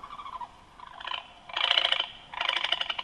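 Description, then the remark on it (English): A recorded male masked owl call played through a megaphone: a harsh, rattling cackle in several raspy bursts, rising in pitch and loudness toward the end, with no voices present. “So that's a male cackling. So only the males do that.”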